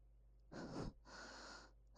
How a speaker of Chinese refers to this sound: 好安静，安静的只能听到我们的呼吸声，还有娇喘声。